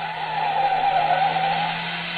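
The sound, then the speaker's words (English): A car speeds past with tires skidding in a sustained, loud screech over a steady engine hum, lasting a couple of seconds with no voices. “He's going to chase us in the car.”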